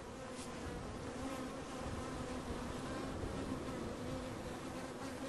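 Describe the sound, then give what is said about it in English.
A dense swarm of bees at a hive drones steadily, a continuous layered buzzing with overlapping pitches that holds at a constant loudness throughout, with no voices present. “Can hear the bees. They're flying pretty normally. Their flight behavior is quite different than European bees.”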